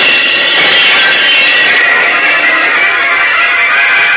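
rocketing flight whoosh

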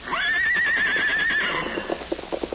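horse neighing

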